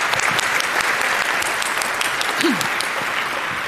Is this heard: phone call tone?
no